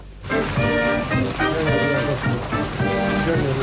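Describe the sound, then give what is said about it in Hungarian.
Steady, loud splashing of the renovated three-tiered Danubius fountain on Erzsébet tér, a continuous hiss of falling water, with a melodic tune playing over it the whole time. “Nem csak a tér, hanem az itt található háromszintű Danubius szökőkút is megújult az Erzsébet téren.”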